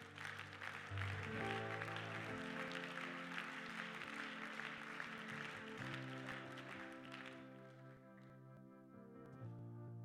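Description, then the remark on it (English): An audience claps steadily during a sermon in a dense, loud wash of hand claps over sustained organ chords. The clapping fades after several seconds while the music carries on. “Oh, I wish somebody would clap your hands right now.”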